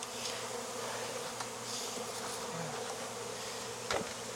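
A steady, dense drone of many honey bees buzzing together in an open hive full of honey, a continuous low hum with sharper wing whines flickering over it and a brief click near the end. No one speaks.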